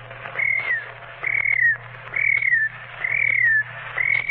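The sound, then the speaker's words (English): A voice mimics a cricket with five steady, high whistled chirps, each slightly falling at the end, repeated at an even pace over a low background hum. “Well, the first imitation is a cricket.”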